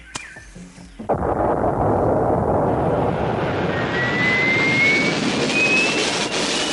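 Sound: rocket launch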